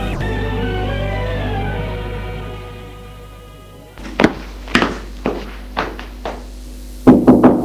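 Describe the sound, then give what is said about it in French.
A sustained musical drone fades out, then a series of solid knocks lands on a bedroom door, about eight raps spaced unevenly, with the last few coming harder and closer together. “Il frappe à la porte de sa chambre et entre.”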